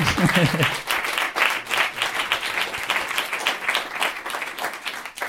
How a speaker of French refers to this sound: Ça mérite des applaudissements quand même. Oui, merci, merci. Ta meuf, elle applaudit trop fort.